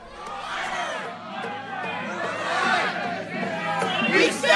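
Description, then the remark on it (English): Many voices shout and chatter together in a loud, dense crowd roar that swells and falls without pause, with scattered raised cries rising above the din outside the Mandan, North Dakota courthouse on a Monday afternoon as journalist Amy Goodman appeared before a judge. “Crowds gathered outside the Mandan, North Dakota courthouse Monday afternoon as prominent journalist Amy Goodman appeared before a judge.”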